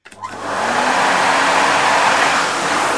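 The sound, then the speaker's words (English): A vacuum cleaner starts up and runs steadily, a loud, continuous whooshing roar with a faint motor hum underneath and no voices. “He's hoovering.”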